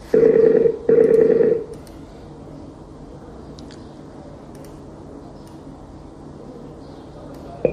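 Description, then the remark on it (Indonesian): Two loud, steady telephone ringing tones sound back to back in the first second and a half as a call is placed again, then the line goes quiet with only faint clicks and low hiss. “Taib, ana matikan, kita telepon lagi.”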